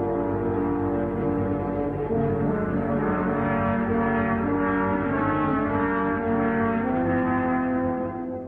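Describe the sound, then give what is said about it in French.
Three French horns play the theme of the big grey wolf coming out of the woods in Peter and the Wolf, in heavy, dark chords, sustained and loud from start to finish, with no voices over the music. “Et enfin, le grand loup gris qui sort du bois. Écoutez les trois corps sévères et sombres.”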